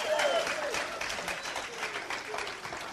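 A church audience applauds Jesus steadily, dense overlapping hand claps sustained at an even loudness throughout, with a faint murmur of voices mixed in.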